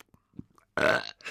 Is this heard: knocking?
no